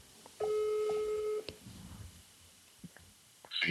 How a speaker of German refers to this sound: Ja, klingelt. Kann ich das mal einmal zeigen? Ne? Ich rufe ihn an.